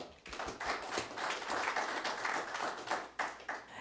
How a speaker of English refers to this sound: Let's clap for her.